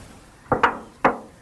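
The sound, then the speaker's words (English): A duck, which learnt the sound while being cared for in a home, mimics a creaking, closing door in three short, harsh, knock-like bursts: two in quick succession, then a third after a brief pause, with no talking. “And it's the creak of a door.”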